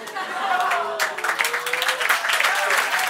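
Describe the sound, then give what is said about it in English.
A person claps their hands in a quick, steady run of sharp claps lasting a couple of seconds, with a voice murmuring or chuckling underneath at the start. “I'm clapping for the pun.”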